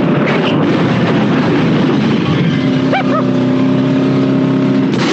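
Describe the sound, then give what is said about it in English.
A rocket car's engine roars and revs loudly as it is fired off a broken bridge, a dense continuous blast with a steady whining tone running underneath and a couple of brief high squeals partway through. “And at some point, they come to a bridge that's broken, and they just fire themselves a rocket car off this bridge.”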